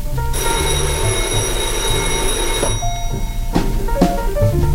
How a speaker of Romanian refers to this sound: Telefonul.